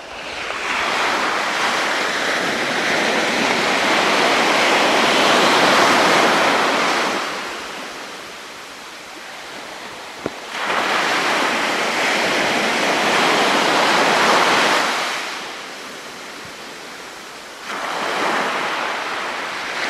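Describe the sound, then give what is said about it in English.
Ocean waves break and wash ashore on a windy day in slow, broad surges, swelling to a loud hiss then easing before the next one rolls in, with a steady windy rush underneath and no voices. “I'll give you a few more moments of the waves.”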